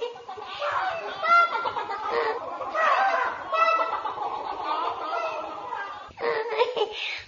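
Chickens cluck and cackle busily for several seconds, a fairly loud run of bright, choppy calls with a brief pause near the end before the clucking starts up again.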